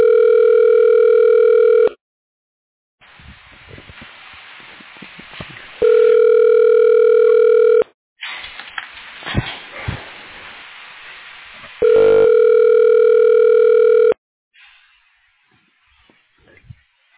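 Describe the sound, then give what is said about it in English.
A telephone ringback tone sounds three times, each steady two-second tone separated by gaps of faint line hiss and crackle, as a call is forwarded. No one speaks. “Your call is now being forwarded. Please hold.”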